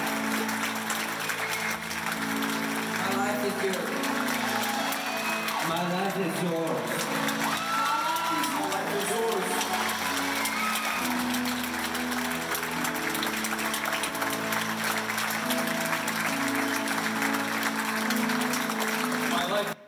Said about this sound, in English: Now, the more people that came forward and said that, the louder the cheers got, and no one told us to do that. Because we didn't need to be told to do that, to respond to what Jesus did.